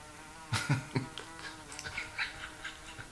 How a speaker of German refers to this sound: Ja, die Wespe, die ist bereits seit einem Tag hier mein Gast und ich hatte schon gehofft, dass sie vielleicht verhungert und verdurstet ist, aber dem scheint nicht so zu sein